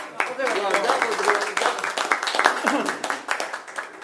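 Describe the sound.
A round of applause from a roomful of people at a town council meeting, congratulating the new council vice president: steady dense clapping lasting several seconds, with a few voices talking and calling out over it.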